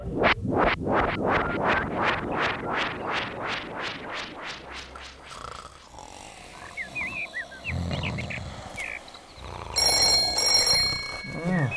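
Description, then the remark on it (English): The Zucchini Brothers Clubhouse telephone rings loudly early in the morning near the end with a bright, electronic tone, after a long stretch of rhythmic, rasping roar-like sounds and some rustling. “Clubhouse phone? Clubhouse phone? Huh? Oh. Clubhouse phone, I got it. Hello?”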